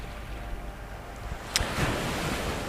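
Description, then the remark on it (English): Steady ocean surf fills the air with a broad, continuous wash, swelling as a wave breaks with a bright crash partway through, then rolling on as a sustained roar with no voices. “Backing me up right now is another selection, an ocean-oriented one from that environmental ambiance album I mentioned earlier”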